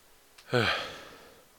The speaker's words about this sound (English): I have to yawn, of course.